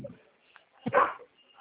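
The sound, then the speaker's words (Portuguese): A dog lets out one loud bark that lasts about a third of a second, with only faint, quiet sounds before and after it. “Cachorro latino aqui, ó.”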